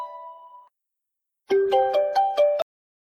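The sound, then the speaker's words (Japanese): A phone ringtone for an incoming call from a friend rings: a short steady tone, a pause, then a bright melodic jingle of rapid repeated notes, moderately loud, with no talking. The call is missed. “あ、出そびれちゃった。”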